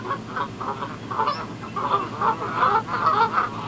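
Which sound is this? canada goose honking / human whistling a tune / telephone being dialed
canada goose honking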